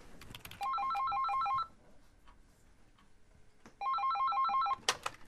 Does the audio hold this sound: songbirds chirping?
no